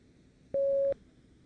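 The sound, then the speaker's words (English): A single steady electronic prompt beep in a German-language number exercise, a pure mid-pitched tone lasting under half a second, loud and clean over faint background hiss, with nobody speaking. “Speak when you hear the beep.”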